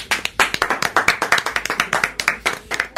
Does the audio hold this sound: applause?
yes